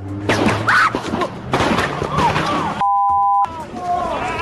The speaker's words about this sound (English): And two police officers shot in Ferguson, Missouri. Here's the gunfire caught on cell phone video and St. Louis County Police Chief ….